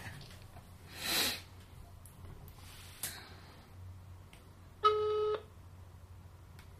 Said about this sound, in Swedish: Ska vi ringa honom då? Vi ringer Djurgården jäveln.